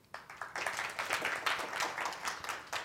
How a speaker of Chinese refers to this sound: 我们热烈掌声欢迎。